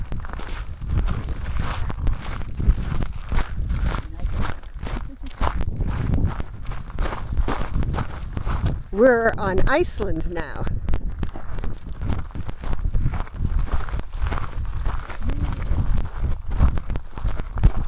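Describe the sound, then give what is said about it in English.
Footsteps of people walking crunch steadily over loose lava rock, a continuous run of gritty, scraping steps at a walking pace, with a short spoken phrase briefly heard over them midway. “Hi everybody, we're walking through lava rocks, and that's what you hear crunching under our feet.”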